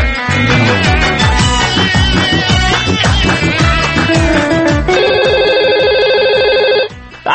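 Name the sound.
telephone ringing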